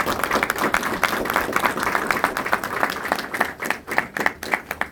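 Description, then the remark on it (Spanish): A crowd applauds steadily for officials of Mexico City's Sistema de Transporte Colectivo Metro and the head of the Iztapalapa borough, many hands clapping in a dense, continuous patter with sharper individual claps standing out, staying loud throughout before thinning slightly toward the end. “Para que les pido un fuerte aplauso.”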